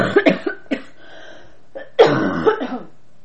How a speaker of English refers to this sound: Hold on, I have to cough.